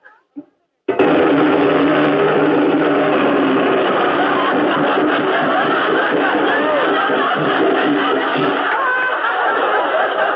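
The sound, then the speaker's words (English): A voice imitates a riveter's hammer with a loud, rapid, buzzing rattle that holds steady for about nine seconds without a break, after a brief sound at the start. “A riveter's hammer.”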